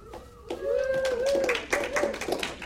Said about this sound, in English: I am underwhelmed by your enthusiasm about this. Say again? Oh, so you can't clap twice? So it's definitely against the rule to clap twice.